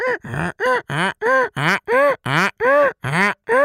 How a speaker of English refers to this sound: Around the manger where Jesus lay, there may have been cattle lowing, yes. Donkeys braying.